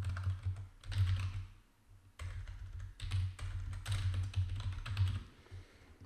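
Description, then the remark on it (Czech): Steady computer keyboard typing of a password and e-mail address during a WordPress installation, fairly loud, with rapid bursts of clicking keys separated by brief pauses, no voices present. “A zadám e-mail, který jsem si vytvořila.”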